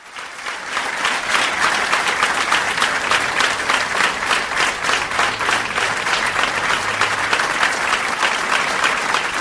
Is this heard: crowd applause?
yes